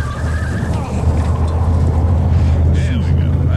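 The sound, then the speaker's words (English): An ambulance engine, just hotwired, rumbles loudly, a steady low drone that holds for several seconds without a break. “I'm going to hotwire the ambulance. All right, here we go.”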